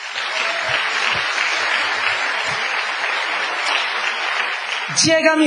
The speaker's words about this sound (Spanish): Démosle un aplauso a tu empleo y a tu jefe.